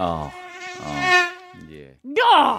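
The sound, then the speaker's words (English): A voice imitates a mosquito's whining buzz in the ear, fairly loud, in a few wavering drawn-out hums with short breaks and a final higher-pitched rising whine, heard in bed after the light is turned off. “mosquito”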